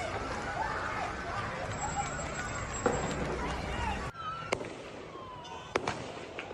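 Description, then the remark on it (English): Several sharp gunshot cracks ring out at irregular intervals over a constant rumble of crowd commotion and indistinct voices, during a gunman's attack at Bondi Beach, Australia, as people run in panic. “Gunshots.”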